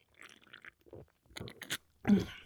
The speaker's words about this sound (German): Wir schlürfen noch ein wenig ins Mikrofon und ihr ahnt, worum es heute irgendwie geht.